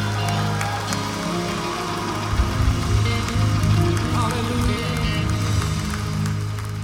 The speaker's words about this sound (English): give the Lord a hand clap of worship and praise in this house?